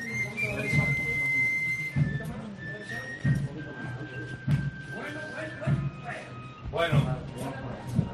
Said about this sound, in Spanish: La Virgen completamente encarada con la puerta de su templo. Ya suena esta flauta travesera de la banda de Villalba del Alcor.